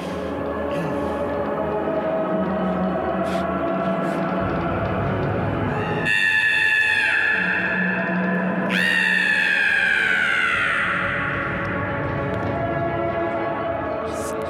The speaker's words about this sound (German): Lang fast wie ein gellender Schrei, dieses Vogelkrähen.